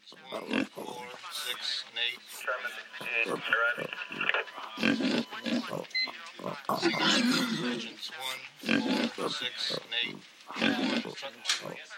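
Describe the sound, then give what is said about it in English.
A pig grunts and oinks repeatedly in short, uneven bursts, loud, with snorting squeals mixed in throughout. “Pigs have poor eyesight, but they have a highly developed sense of smell.”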